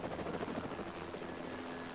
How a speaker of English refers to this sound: The helicopter flies off.